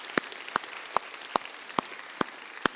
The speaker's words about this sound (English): and I want you to just let them know how thankful you are for them. A lot more are serving in the ranks back in the other areas, but let's just give them a round of applause and let them know. Thank you. Thank you.